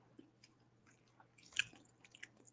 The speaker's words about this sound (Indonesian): Aku lagi sarapan makan. Makan apa yo? Aku lagi makan.